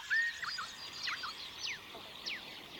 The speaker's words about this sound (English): Hear the sounds of the variety of birds sweetly singing as you walk along the golden path.